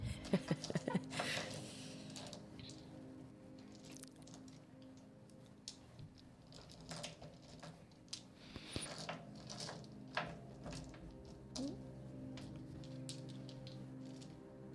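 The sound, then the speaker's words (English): Lots of dice clatter and tumble, a steady stream of sharp irregular clicks and rattles with occasional louder knocks, continuing for several seconds with no speech over them. “So many dice.”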